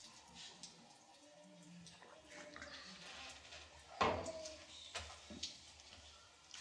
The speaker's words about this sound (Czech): A tak mi tady ta sklenice v kazatelně připomíná, že se mám napít.